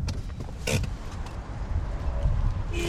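A car pulls in and parks at the far end of a full-service filling station with a hydrogen section on the outskirts of Reykjavik, Iceland: steady low engine rumble, a sharp mechanical clunk early on, and a short whirring sound near the end. No voices.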